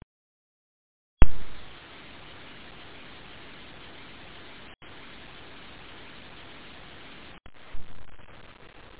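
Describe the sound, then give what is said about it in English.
Silence breaks into a sudden burst of steady radio static during a radio transmission attempt, hissing on for several seconds, with a couple of brief dropouts and a faint crackling bump near the end. “Well, I did hear some white noise that time, so we'll just have to get your report next week, and we'll have to wait a whole week and get ready for that.”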